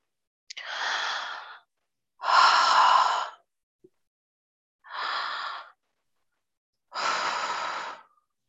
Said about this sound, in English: Just keep breathing.